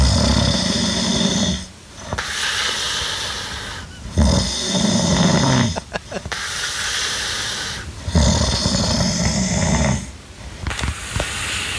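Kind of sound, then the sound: human body sound, man snoring loudly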